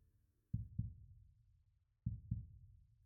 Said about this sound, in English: Now listen. No, it's not your heartbeat. It's mine.